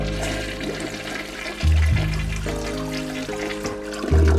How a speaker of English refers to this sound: You know, not everybody gets the chance to see where their poop ends up after flushing the toilet.